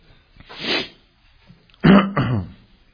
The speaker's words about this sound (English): By the way, forgive me today. You may hear me clear my throat a lot today. I've been, it's been a rough few weeks.